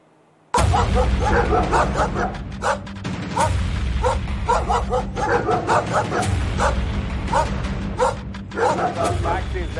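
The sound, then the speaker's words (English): A pack of street dogs in India's National Capital Region barks and yips loudly and almost nonstop, with sharp barks overlapping in quick bursts over a steady low hum. “The Supreme Court has thrown down the gauntlet and made it absolutely clear street dogs are no longer welcome on the streets of the National Capital Region.”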